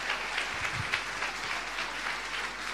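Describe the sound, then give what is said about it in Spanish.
A church audience applauds steadily for the "King of Kings, Lord of Lords", a dense wash of many hands clapping, sustained evenly throughout with no voices standing out. “¿Y cuántos le pueden dar un aplauso al Rey de Reyes, Señor de Señores?”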